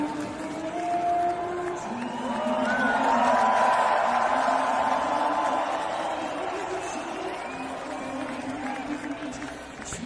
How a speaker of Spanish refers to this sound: Algo similar pasó con el hockey sobre hielo en la NHL de los Minnesota Wild contra los Ottawa canadienses, los Ottawa Senators. Tras los abucheos y una exhibición de patriotismo, los canadienses cantaban así a pleno pulmón su himno.